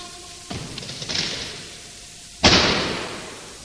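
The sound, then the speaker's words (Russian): A heavy bronze door slams shut with a loud, booming impact and a reverberant tail that lingers, preceded by a softer thud and rattle moments earlier. No voices. “Тяжелая бронзовая дверь захлопнулась за спиной юноши.”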